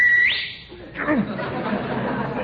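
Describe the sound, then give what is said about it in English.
A sharp, loud whistle opens the moment, holding one note before sweeping upward in pitch, then quickly gives way to a murmur of background voices and noise. “And don't whistle.”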